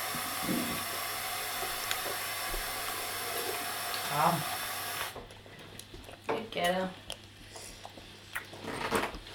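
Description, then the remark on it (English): A tap runs with a steady rushing hiss for about five seconds, then shuts off abruptly; brief voices are heard during and after, including what sounds like a child. “would you like some water?”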